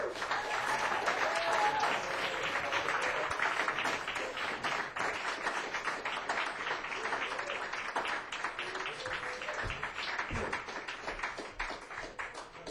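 A crowd applauds steadily as a musician is welcomed to the stage for live music, a dense wash of many hands clapping at full strength that holds throughout with only a slight easing toward the end. No voices stand out.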